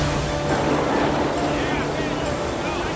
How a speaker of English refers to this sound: All right, what we just went through is where the Bidwell Rapids start. Class 4 with some class 5. Okay, that's it. The river is wide, frothy, and fast flowing. Grinning, the group paddle their way through the rapids.